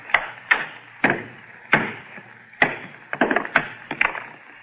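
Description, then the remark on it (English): A hammer strikes a stone again and again, about ten sharp, hard cracks at an uneven pace, with a quicker cluster of blows near the end. No voices are heard. “All I'm going to do is try and break it along this fissure. Okay, I had a hammer.”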